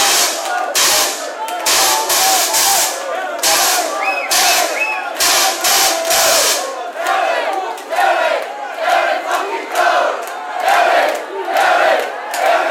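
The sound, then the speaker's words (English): A loud crowd at a club night at the Arches in Glasgow cheers and shouts continuously, with bursts of whooping and overlapping yells rising and falling throughout, no music underneath. “I think you can hear from the crowd in the background.”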